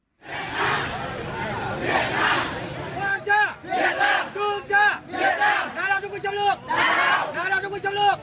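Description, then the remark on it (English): Protesters chant together in a loud crowd, their voices rising in rhythmic, repeated bursts after an opening swell of mixed shouting and noise. “Hear the sound of Vietnamese protesters chanting against a Chinese oil rig in the South China Sea in territory claimed by Vietnam.”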